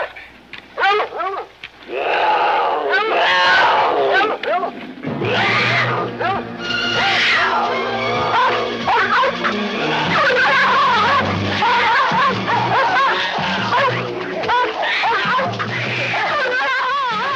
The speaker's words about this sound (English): Do you think the Hollywood world would frown on a real mountain lion and a dog fighting today? Clearly in 1974, this wasn't an issue.